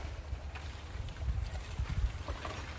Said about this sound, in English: Beautiful. Just ice breaking apart in the Hudson River there.